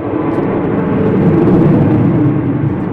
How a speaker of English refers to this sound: so there's been various aeroplanes flying throughout the day, but the Harrier started flying now and people have just flooded onto the balcony that we're on to come and watch it.